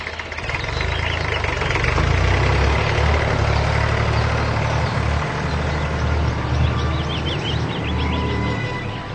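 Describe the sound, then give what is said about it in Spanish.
A young man's car engine idles steadily, a continuous low rumble with a slightly rough, knocking texture that holds at an even level for the whole stretch. “Procuren deducir por los sonidos en la escena que a continuación les presentamos hacia dónde se dirige el joven en su auto.”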